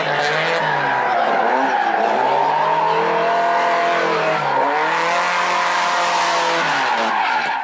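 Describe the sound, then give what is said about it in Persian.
Loud, continuous tire squeals from sports cars skidding and revving in front of Bustan-e Velayat on a Friday, with engine pitch rising and falling in sweeping arcs as the cars race and slide. “جمعه جلو بستان ولایت شده پاتوق ماشینای اسپورت.”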